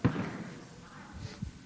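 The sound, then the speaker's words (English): Fireworks boom outside: a heavy, muffled thud at the start rolls off into a low rumble, then two softer booms follow near the end, with no talking. “Who would have thought? Amen? It's fireworks.”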